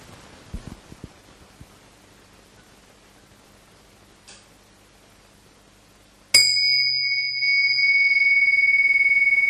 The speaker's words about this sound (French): Voilà, avant d'aller plus loin, je vais faire résonner ma cloche, de manière à ce que nous commencions par une présence partagée.